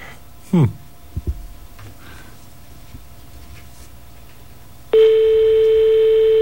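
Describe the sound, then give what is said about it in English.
Telephone line noise with a few short dialing clicks and a brief tone burst as a toll-free 800 number in the States is dialed through a forwarding service, then a loud, steady buzzing European ring tone that starts abruptly and holds to the end. “And you should be able to hear this system connect.”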